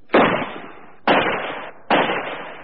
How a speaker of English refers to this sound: It was when we got into the mobile crane that the first shot was fired.